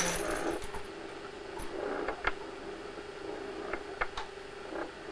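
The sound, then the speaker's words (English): Coins drop and clink in a scattered handful of bright metallic hits spread over a few seconds, over a low steady background hum with no one talking. “Bring a trolley truckload of coins, that would put a smile on my face.”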